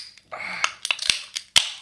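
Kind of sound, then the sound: household object, clinking glasses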